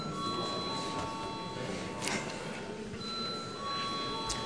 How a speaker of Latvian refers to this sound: Paldies, lūdzu zvanu.